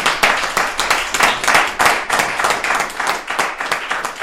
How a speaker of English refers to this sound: Everybody, know something? Let's give a round of applause to this beautiful dancer.